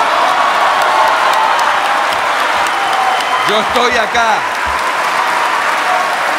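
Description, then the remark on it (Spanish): A large crowd of senators and deputies roars and shouts insults continuously, a dense wall of noisy voices with a few louder individual yells rising out of it midway through, steady and loud throughout. “Y por primera vez, señores, señores, señores, señores, los gritos, los insultos, no hablan de mí, hablan de ustedes, señores.”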